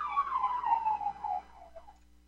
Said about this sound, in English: All right, that siren's actually up here in North Dakota, and I guarantee if you hear a siren in North Dakota, it's not a cop car, it's an ambulance.